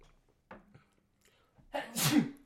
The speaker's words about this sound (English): I feel like I'm going to sneeze.